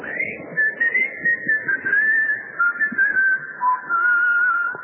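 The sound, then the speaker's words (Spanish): A person whistles a steady, clear note as a call signal, wavering slightly and drifting down in pitch over several seconds, heard over a low, rumbling background with soft rhythmic thumps. “El tango ese que cuenta cómo había un chiflido para congregar a la barra.”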